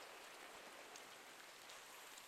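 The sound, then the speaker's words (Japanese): Steady rain falls in a continuous, even hiss with soft scattered drop patter, fairly quiet, with no voices. “雨の音を聞くだけでだんだん何も考えたくなくなっちゃう。”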